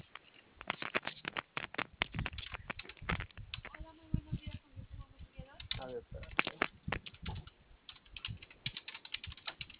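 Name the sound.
typing on a keyboard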